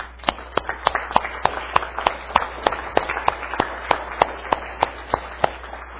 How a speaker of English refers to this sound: I tell you what we ought to do. Let's applaud our Lord.